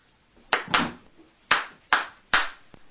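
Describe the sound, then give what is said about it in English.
Five sharp hand claps ring out at an uneven pace, the first two close together and the rest spaced wider apart, crisp with no talking. “It doesn't have to be a musical instrument. El afilu biyad. Even with your hand. Kegoy lahakis kaf al kaf. Clapping.”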